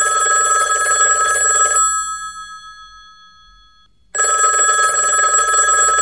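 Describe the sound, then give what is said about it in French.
A telephone rings loudly in two bursts, a long trill, then a fading tone and a gap before the bright, buzzy ring starts again, as an outgoing call is placed to someone in Bordeaux for the Bouillon de Culture questionnaire. No voices are heard. “on va devoir prendre le téléphone et on va faire sonner cette fois, chez Esteban qui est à Bordeaux”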